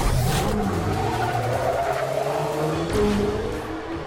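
Loud car engines roar continuously while tires squeal and skid, with sweeping pitch changes as vehicles race; no one speaks.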